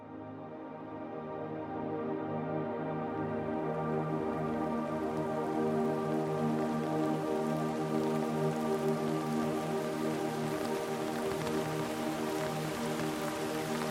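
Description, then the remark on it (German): Steady, gentle rain patters continuously on city rooftops in the early evening, fading in over the first couple of seconds and then holding an even, soft hiss with scattered drops throughout. “Es ist früher Abend und ein sanfter Regen fällt auf die Dächer der Stadt.”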